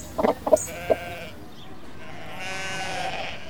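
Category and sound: animal, goat bleating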